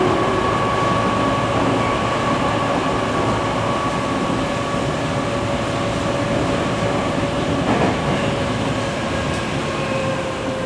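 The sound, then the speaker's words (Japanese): A Tokyo Metro Chiyoda Line subway train bound for Ayase, next stop Yoyogi-koen, runs steadily, heard from inside the car, with a constant loud rumble and a sustained electric motor whine throughout, plus faint rattling. No one speaks. “今日も東京メトロ千代田線をご利用いただきましてありがとうございます。”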